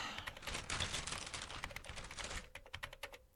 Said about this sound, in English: Keep typing.